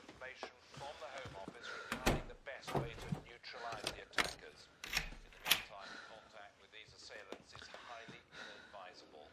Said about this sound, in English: I'm going to shut the front door.